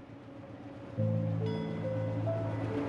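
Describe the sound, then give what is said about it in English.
The final train rumbles away from a dim, torchlit station in a steady, roaring wash, with droning mechanical tones that swell and shift after the first second. No voices are heard. “The final train rolls away from a dim, torchlit station.”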